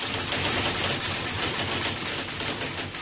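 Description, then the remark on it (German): Rapid, continuous clacking of a mechanical typewriter with metal type bars, keys striking in a dense, steady rhythm, loud with a bright metallic edge and no voices. “Da die Typenhebel aus Metall waren, war das Schreiben auf diesen Maschinen sehr laut.”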